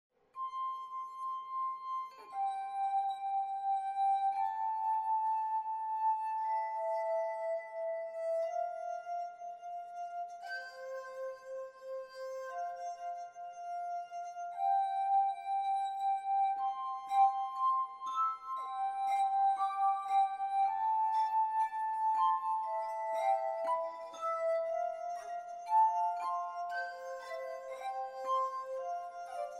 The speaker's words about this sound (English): So first, let's start with a pure harmonica sound. One person is playing a canon, of course, using both hands, on the glass harmonica the way Franklin invented it.